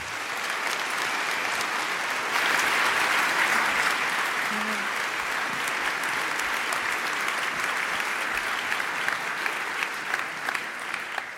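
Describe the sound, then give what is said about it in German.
Sustained audience applause, a dense steady wash of many hands clapping at an even loudness, swelling slightly around the third second and then holding before tapering a little at the end. “Und jetzt einen großen Applaus.”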